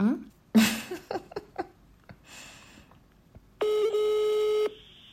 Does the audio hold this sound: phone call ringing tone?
yes